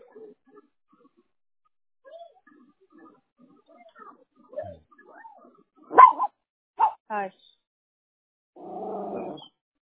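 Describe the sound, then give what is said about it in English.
A small Yorkie dog lets out a few sharp barks in quick succession, followed by a longer, rougher yappy bark, with faint murmuring voices earlier in the background. “Oh, that sounds like a smaller dog that thinks he's a Rottweiler, huh?”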